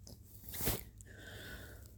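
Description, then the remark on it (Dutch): Quiet mouth sounds of someone chewing and swallowing a mouthful, with one brief, louder wet burst near the middle and soft smacking afterward. No one speaks. “Ik probeer dit even af te slikken.”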